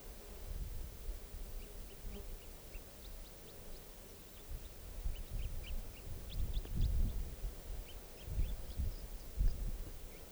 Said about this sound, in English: And this is song now, that wild bird calls there. And song. Wild bird.